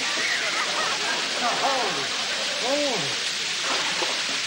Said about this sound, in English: Wait a minute. This place is going to fill up with water. I don't want to drown.